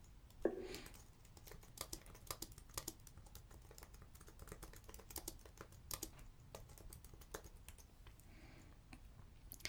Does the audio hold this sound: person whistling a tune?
no